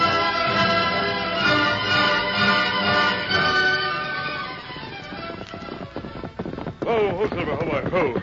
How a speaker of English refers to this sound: Steady now. Easy, big fella. All right, Milt. Dismount. Gosh, what a horse.